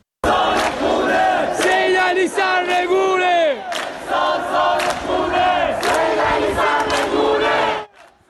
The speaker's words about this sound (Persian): معترضانی که در شهرک اکباتان به یکی از حلقه های اصلی اعتراضات در ماهای گذشته تبدیل شده بودند و حضور شبانه مردم این شهرک و شعار علیه حاکمیت به یکی از نقاط اصلی درگیری نیروهای امنیتی و مردم معترض در تهران تبدیل شده بود.